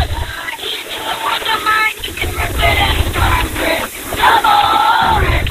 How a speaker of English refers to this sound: Oh, that's a great cheer.